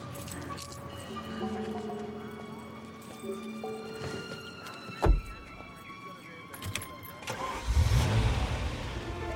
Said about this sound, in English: The car won't start.